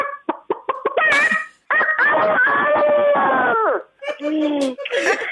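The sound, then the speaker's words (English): A person imitates a rooster: a quick run of clipped clucks, then a loud, long drawn-out crow that drops in pitch at the end, followed by a shorter, wobbling crow. “Cock-a-doodle-doo. You know what? I used to do it a lot, you know, these impersonations.”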